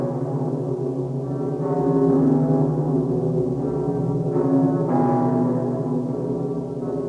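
Deep, resonant church bell tones ring out continuously, their humming partials overlapping and swelling, with fresh strikes adding brighter overtones every second or two. No voices.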